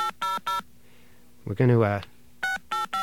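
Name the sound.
telephone DTMF dialing tones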